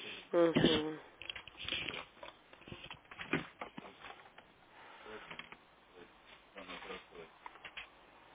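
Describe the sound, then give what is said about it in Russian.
Crisp rustling of paper documents being picked up and shuffled, with a louder flurry near the start and then scattered lighter rustles, while a voice murmurs briefly in the background. “Есть ошибка, сейчас я ваше выполнение в бумаге возьму, секундочку.”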